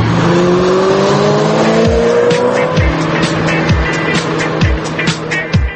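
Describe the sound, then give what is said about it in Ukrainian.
A sports car engine revs loudly, its pitch climbing steadily as it roars past, with a sustained throaty drone and some rattling clatter underneath throughout. “Модена відома як столиця спортивних автомобілів та двигунів.”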